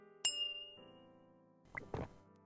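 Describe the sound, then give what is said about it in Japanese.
A single bright clink of glasses touched in a toast over drinks rings out sharply and lingers with a fading tone, followed by soft ambient sounds and a brief murmur near the end. “じゃ、乾杯しようか。”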